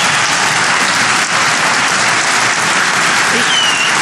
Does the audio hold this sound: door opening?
no